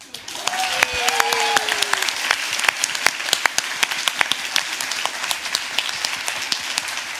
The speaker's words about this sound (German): Ein riesiger Applaus für die großartige, bezaubernde Cold Mirror. Danke. Das war im Autokino Live 2018.